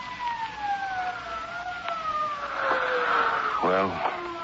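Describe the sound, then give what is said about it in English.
A police siren wails with a long, slowly falling tone that rises in loudness toward the end, and a voice speaks briefly over it near the close. “Sirens. Can't you hear them?”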